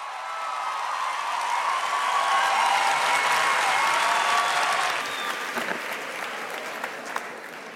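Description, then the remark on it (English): Tremendous applause from the audience at Chimamanda Ngozi Adichie's lecture at the Hay Festival Cartagena in Colombia: dense, sustained clapping that stays loud and steady, easing slightly toward the end, with a few faint voices mixed into the roar. “Adichie began, once the tremendous applause had died down, by recalling a significant episode in her childhood in Nigeria.”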